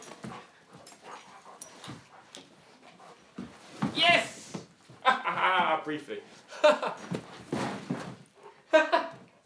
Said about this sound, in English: Silly dog.